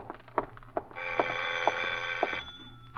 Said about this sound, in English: Then, just as you finish putting on your lipstick, the doorbell rings again.